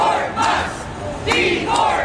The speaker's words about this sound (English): Protesters at a rally in Tampa, Florida against the Musk mass firings.